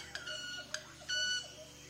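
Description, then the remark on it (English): Club-winged manakin wing stridulation at a forest lek, a bird displaying on the open branches of melastoma trees: sharp ticks followed by a buzzy, violin-like ringing tone, repeated a few times over a soft background hum. “This unique sound permeating through the forest around me is caused not by a bird singer, but by a bird violinist.”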